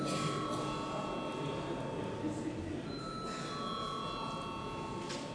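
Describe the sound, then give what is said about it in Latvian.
A parliament bell rings continuously for the whole stretch before a first-reading vote on a bill amending the law on state pensions, a steady, shrill metallic ringing with bright overtones, sounding over a low murmur of voices in the parliament. “Lūdzu, zvanu.”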